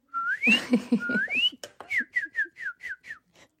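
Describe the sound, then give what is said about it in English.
A person whistles an imitation of a cardinal's song: two long upward-sweeping whistles, then a quick run of about nine short, downslurred notes, clear with no talking. “Okay, let's have my cardinal meet your bard owl.”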